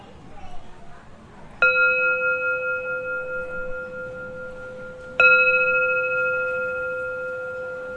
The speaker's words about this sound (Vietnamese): Cho nên ví dụ như mình thỉnh chuông, mình thỉnh vậy nè, quý vị nghe mà nó không có ngân, nó không có phát. Cho mình thỉnh tiếng chuông, mình phải thỉnh không ngang, không đứng mà xéo, để đưa cái tiếng chuông đi lên.